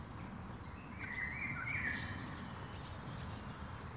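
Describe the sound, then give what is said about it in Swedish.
A Eurasian golden oriole gives one short, fluty whistled phrase, rich and mellow, rising above a steady rushing background noise before it fades out. “För mitt under den så börjar en sommargylling sjunga.”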